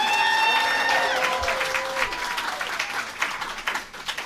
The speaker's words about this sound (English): Please welcome to stage, big round of applause.